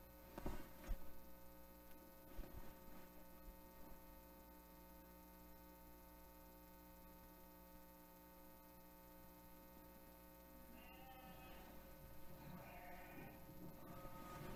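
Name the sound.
lamb bleating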